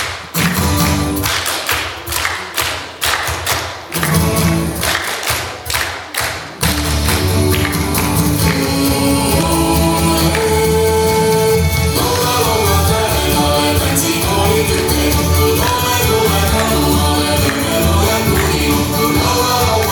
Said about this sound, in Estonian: Kuulake nüüd, kuidas publik tantsurühmale Rannaroosid kaasa elab.